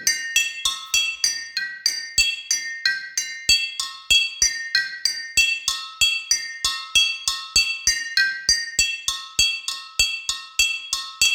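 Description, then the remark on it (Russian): Glass flasks holding different amounts of water are struck in a quick, steady series, each tap giving a bright ringing tone. The pitches shift from note to note like a simple tune, with no talking. “Так звучат колбы, в которые налито разное количество воды.”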